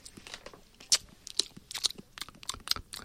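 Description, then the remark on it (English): Crisp crunching and chewing of a Maui fruit roll snack, with sharp bites landing roughly every half second over a steady run of smaller crackly chews. “I like these Maui fruit rolls. I like these. I'm going to have one more.”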